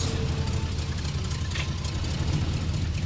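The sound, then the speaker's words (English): A rented van's engine runs continuously as it pulls up outside a house, a steady low rumble with a deep droning throb and faint higher mechanical hiss, loud throughout with no talking. “Just then, the rented van pulls up outside the house.”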